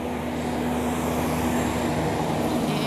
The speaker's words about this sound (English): So, hold on a second, with a giant truck passing.